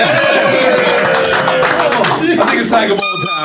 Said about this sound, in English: Give a round of applause for that.